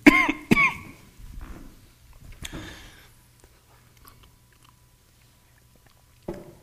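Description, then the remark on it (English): A speaker with a cough drop in the mouth gives two sharp coughs in quick succession, then a softer third cough a couple of seconds later, with faint mouth and throat noises in between and near-silence after. “I do have a cough drop in my mouth, but it's only like 75% effective, obviously.”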